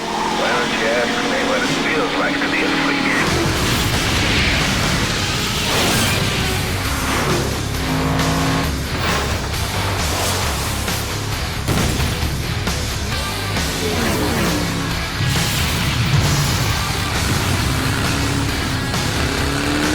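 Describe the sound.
A loud, busy trailer soundtrack for the racing game FlatOut 2, which opens the game: roaring car engines and crashing impacts of wrecked cars layered over dense music, with a voice talking through much of it, continuous and intense throughout.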